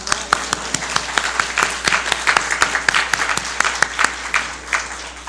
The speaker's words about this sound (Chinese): 但是很高兴我们今天当中，我看到有好几位是特别是陪了太太一起来敬拜的，我想我们要给这些先生们一个鼓掌。